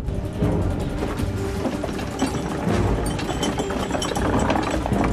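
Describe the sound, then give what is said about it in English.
A boat's engines fire up into a steady, loud mechanical drone with a rhythmic chugging rattle, continuous throughout, with no voices, as the boat pulls away from a harbour wharf. “She stares in dismay as the engines fire up.”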